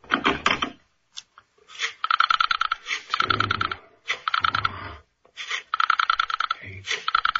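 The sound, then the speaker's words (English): Pages of a thick telephone book riffle rapidly in several bursts as someone looks up a phone number, a dense fluttering patter of clicks with short pauses between flips. “Listen, Mr. Avery, the sound of the flipping of the pages.”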